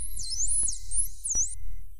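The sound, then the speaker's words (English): A typical high, thin dolphin whistle, recorded this summer, glides up and down in pitch for about a second and a half over a low, steady underwater rumble, with two sharp clicks cutting through. “Here is an example of a typical whistle taken from this summer's audio.”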